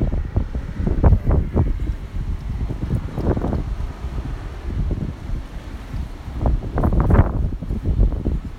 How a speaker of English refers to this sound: I'm not sure if you heard that. That was not traffic. That was actually the wind going through the trees. So, hopefully you guys can hear it.